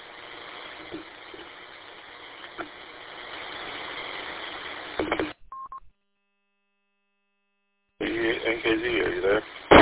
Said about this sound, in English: I'm not sure what that was. The repeater just, got transmitting or something. I was waiting for it to drop.